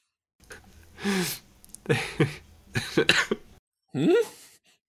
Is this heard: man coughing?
yes